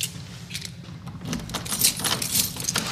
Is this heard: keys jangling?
yes